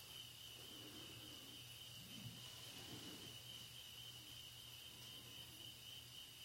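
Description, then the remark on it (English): Crickets chirp in a steady, unbroken high drone throughout on a warm day, quiet, with a faint low hum underneath and no voices. “The sound of the crickets.”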